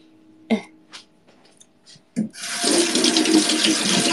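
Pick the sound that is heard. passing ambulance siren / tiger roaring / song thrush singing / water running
water running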